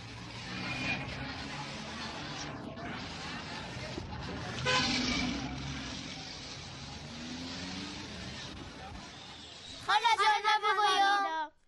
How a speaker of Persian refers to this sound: صدای ماشین ها بود که داشتن از خیابان تیر می شدن کت موتر ها و اینا دیگه.